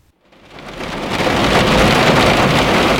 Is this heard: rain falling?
yes